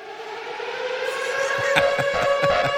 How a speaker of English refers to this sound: It's more of an air raid siren kind of thing, right? I haven't heard that one since Baghdad was under attack.